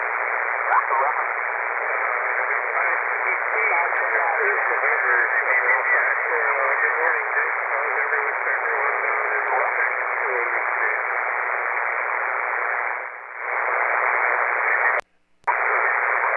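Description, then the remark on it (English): A weak voice comes through on amateur radio, buried under steady, harsh static and interference (QRM), continuous throughout, with a brief dip and a short dropout near the end. “Everybody's a little light here with a lot of QRM.”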